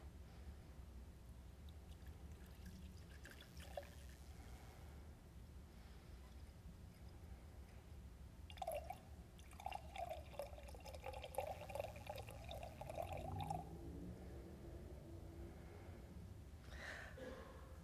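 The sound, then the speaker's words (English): Water is poured into a cup, a soft, fairly quiet gurgling stream lasting a few seconds, with the pitch rising as the cup fills, followed by a brief trickle near the end. “And as I pour, I invite all of us to think silently in our hearts and give thanks for things.”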